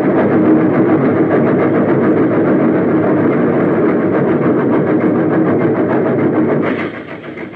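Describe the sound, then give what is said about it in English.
A loud train roars and clatters in a steady rhythm, then its sound abruptly changes and drops near the end as it plunges into a smoke-filled tunnel shaft. “He was still standing when the train plunged into the smoke-filled shaft.”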